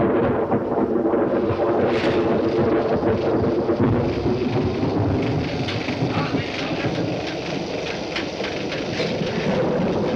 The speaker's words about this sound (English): what you're hearing here are the classic storm sounds from the Frankenstein